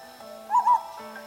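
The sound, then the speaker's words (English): Two quick owl hoots in close succession, fairly clear and mid-loud, over a steady faint background hum with no talking. “Owls are active at night. It's the time we hunt for food.”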